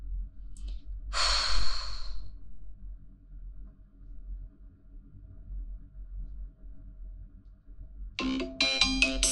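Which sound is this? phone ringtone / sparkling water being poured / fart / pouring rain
phone ringtone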